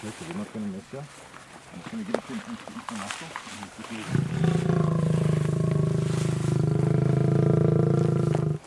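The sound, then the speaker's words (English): Indistinct voices for a few seconds, then a lion waking from sedation after a reversal drug lets out a deep, sustained growl, loud, rumbling steadily for several seconds until the end. “Yeah, that lion's a lot less asleep than he was.”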